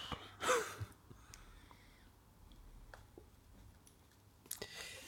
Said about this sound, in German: mein Stift schreibt.